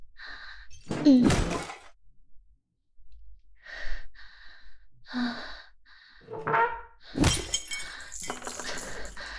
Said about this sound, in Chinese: 哎呀！姐姐，你轻点吧，崩碴子都崩到我脸上了。